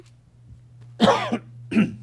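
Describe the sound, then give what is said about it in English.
Two harsh coughs from a speaker reading a Bible passage aloud, the first longer with a rasping throat-clearing quality, the second a short bark after a brief pause, over a steady low electrical hum. “I've got some cough drops over here.”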